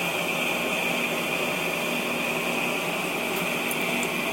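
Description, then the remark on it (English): A steady, unbroken mechanical hum with a broad hiss and a faint tonal whine from an air conditioner running, constant throughout with no voices. “I hope that's not too loud, but I can't do anything about the air conditioner.”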